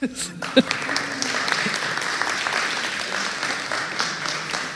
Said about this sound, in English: Applause.